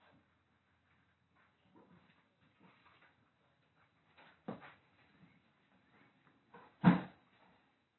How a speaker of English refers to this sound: You care if we put this drawer right here? No, yeah, you can do whatever you want to do.